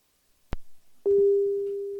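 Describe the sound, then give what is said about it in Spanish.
A sharp click, then a steady, clear electronic ringing tone starts and holds evenly to the end: an outgoing WhatsApp call ringing while trying to reach someone in Concepción, Chile. No one speaks. “¿Veis que estamos llamando vía WhatsApp? Somos WhatsApp.”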